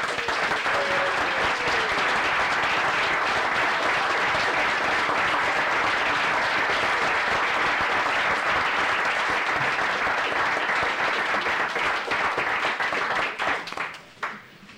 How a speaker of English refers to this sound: Speaker, I ask unanimous consent for the approval of the citation and suggest we vote by giving a standing bit of applause for the member.